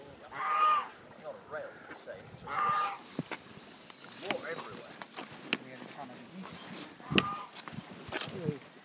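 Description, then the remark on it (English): Geese honk twice, two loud nasal calls about two seconds apart near the start, followed by scattered clicks, knocks and muffled background activity with faint voices. “I don't like geese. I really don't like geese.”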